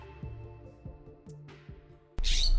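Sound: birds squawking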